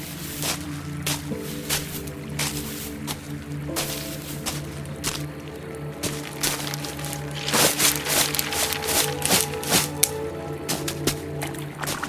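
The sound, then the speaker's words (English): River water in the woods rushes and gurgles continuously, with irregular splashy bursts over a steady low rumble, holding an even moderate loudness throughout. “It's coming from deeper in the woods. A river?”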